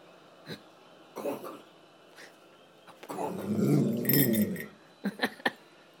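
dog growling

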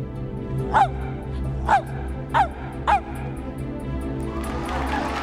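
dog barking four times

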